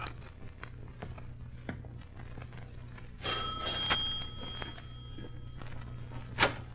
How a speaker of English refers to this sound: 27 Ludwigstrasse. It's an ugly building. Mm. Front door, Watson. Shall we mount the stairs and ring?